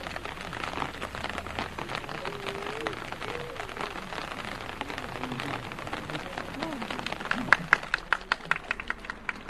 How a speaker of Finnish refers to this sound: No niin, ja kuten kuulitte, niin siellä hän sitten tuon juhannusjulistuksen loppupuolella alkoi sade ropista yleisön sateenvarjoihin